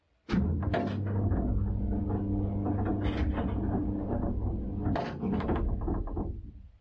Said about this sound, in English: So let's take the dumbwaiter lift up to the ground floor of the Whoseum. Can you all squeeze in? Budge up a bit.